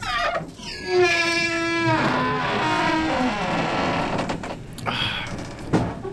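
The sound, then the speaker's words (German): A heavy door is forced open with a long, loud groaning creak: a drawn-out tonal squeal gives way to rough grinding, then a dull knock near the end. No one speaks. “Hilf mir mal, die Tür aufzustemmen.”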